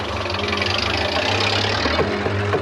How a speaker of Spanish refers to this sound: Una tanqueta sale del cuartel inglés.